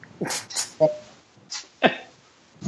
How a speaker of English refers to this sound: and there's the dog barking. Why are you barking?